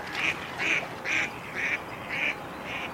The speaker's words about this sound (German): Auch Wolfgang Fiedlers besondere Freunde, die Stockenten vom Bodensee.